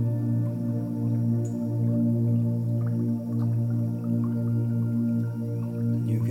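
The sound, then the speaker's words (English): Gentle trickling water with scattered small drips and splashes, softly layered beneath a steady, sustained low musical drone that continues throughout. “Trickling of the stream.”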